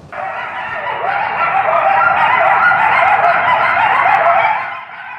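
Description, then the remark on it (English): A frenzied chorus of coyotes howling and yipping in a Holly Springs neighborhood, from a video recorded at Sunset Walk: a dense tangle of high, wavering cries and sharp yelps that holds steady for about five seconds, then drops off abruptly near the end. “I'm pretty familiar with that sound because I came from Arizona where we see coyotes and hear them on a pretty regular basis”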